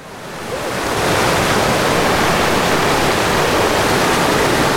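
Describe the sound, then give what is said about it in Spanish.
Steady rushing water of the Ajajalpan River in the Sierra Norte of Puebla, loud, a dense continuous roar that swells in over the first second and then holds evenly with no voices. “El río Ajajalpan alimenta y da vida a los pueblos Tutunacús de la Sierra Nororiental de Puebla, junto con los ríos Necaxa, Tecuantepec y Apulco de la Sierra Norte de Puebla.”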